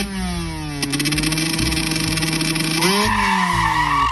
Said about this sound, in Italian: All'improvviso il pesante silenzio dell'elucubrazione fu interrotto dal rombo inconfondibile di un motore Zundapp 125, potenziato di scarico Polini.